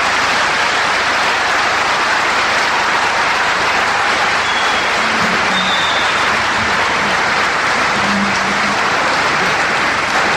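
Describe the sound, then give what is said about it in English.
A crowd applauds steadily in appreciation of Sheikh Ahmed Didat, a 78-year-old Islamic scholar, a dense, loud wash of clapping that holds evenly for about ten seconds, with no voices standing out above it. “Before we all go, would you all please show your appreciation once again for the Sheikh.”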